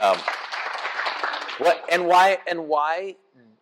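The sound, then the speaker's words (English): A short burst of clapping from a small group fills the first second and a half, then fades as a voice starts speaking. “That's very, round of applause.”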